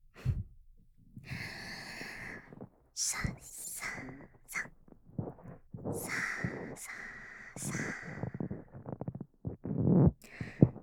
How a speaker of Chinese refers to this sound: 这样的声音清晰又响亮，就像直接钻进头颅一样。我手中的鹅绒棒在你的耳膜附近轻轻的摩擦，